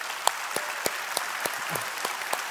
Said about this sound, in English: And you know what? Thanks, Dad. Can we give Dad a round of applause?